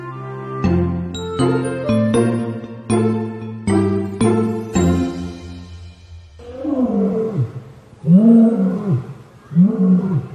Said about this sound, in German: Unverkennbar zu hören, wo wir jetzt in Hellabrunn hingegangen sind. Wir sind natürlich bei den Löwen